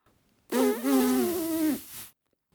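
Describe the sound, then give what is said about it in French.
A single loud, buzzing blow of about a second and a half: a strained, reedy tone with breathy hiss, made by a person blowing hard through the mouthpiece of an object while trying to play it like a flute, wavering slightly before cutting off. “J'ai beau souffler comme une malade dedans l'embout, un peu comme ça.”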